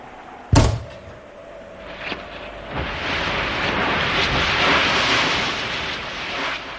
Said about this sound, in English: Now, Thomas, the cupboard door.